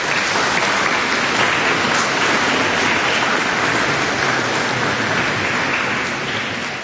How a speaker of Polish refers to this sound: Brawa dla wszystkich księży.